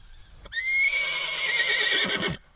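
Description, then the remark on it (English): A horse, a mare named Indy about 6 years old, gives one loud neigh lasting nearly two seconds, a high shrill whinny that wavers and breaks into a shuddering finish before cutting off. “This is my horse. She's about 6 years old, and I'm going to rig up this hackamore here for her.”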